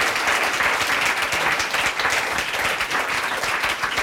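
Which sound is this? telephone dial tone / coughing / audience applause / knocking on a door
audience applause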